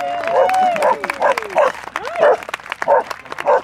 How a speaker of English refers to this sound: Okay, that's Clem, and her owner says barking is how she claps.